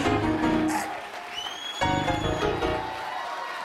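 An audience claps its hands and cheers at a preacher's call, in a sustained, dense wash of applause, with crowd voices mixed in and a bright rising tone sliding through the middle.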